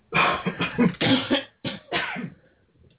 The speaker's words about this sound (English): Now take a deep breath and cough them out.